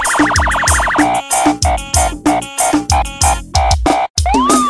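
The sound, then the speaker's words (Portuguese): A fast warbling siren wails over a punchy funk beat with heavy bass kicks and rhythmic stabs, and a brief rising-and-falling siren sweep returns near the end. “Festinha tá gerando, sirene já tocou.”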